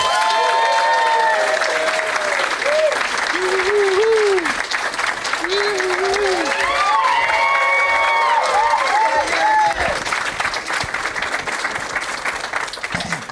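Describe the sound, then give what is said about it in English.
A studio audience claps steadily and loudly for over thirteen seconds as two guests are welcomed, with excited whoops and cheers rising over the applause in two bursts. “Because everyone will just start clapping more, and they sound like they're more excited, even though you're just gesturing for them to do that.”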